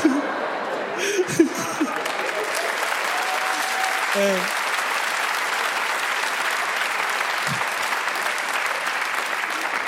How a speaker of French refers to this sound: Vous avez applaudi ça?